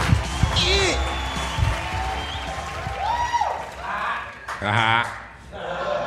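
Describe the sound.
An audience claps and cheers steadily for several seconds, a dense wash of applause with rising whoops and shouted voices breaking through on top.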